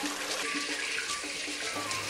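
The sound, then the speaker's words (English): Water pours steadily into a cooking pan of fried onion, bell pepper, chili pepper and tomato concentrate to dilute it, a continuous splashing rush with a faint tonal ring, lasting a couple of seconds with no voices. “Dilute with a little water.”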